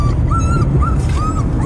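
dog whimpering and yipping

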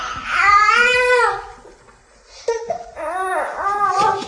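baby crying

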